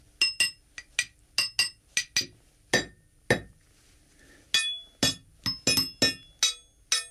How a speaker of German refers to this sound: Das zentrale Arsenal von Schlagwerkstücken besteht aus Kleinmetallteilen von Zügen und Gleiskörpern. Ich habe hier vier Stück mitgebracht und werde jetzt vorsichtig spielen.